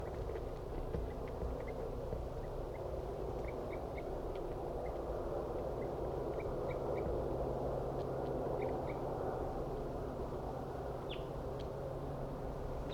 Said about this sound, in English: Wild bird.